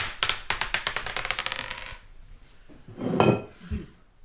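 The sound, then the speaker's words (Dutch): A die is thrown to draw a winner, clattering across a hard surface in a quick series of sharp clicks for about two seconds, then after a short pause comes a louder knock and scrape. “Maar we gaan de dobbelsteen gooien.”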